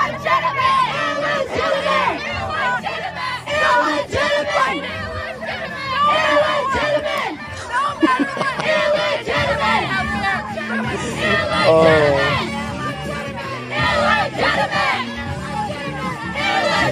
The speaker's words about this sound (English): they are screaming illegitimate to the SCOTUS decision. That is not possible.